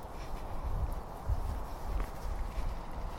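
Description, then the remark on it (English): Coots running across water while chasing each other as they try to fly, their feet slapping and splashing in a few short, uneven bursts over a steady low rumble of background noise. “Those are coots.”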